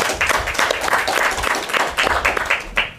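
An audience applauds the operators of the broadcast centre, many hands clapping together in a dense, continuous patter at moderate volume without fading.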